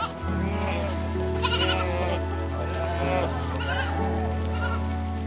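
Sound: sheep bleating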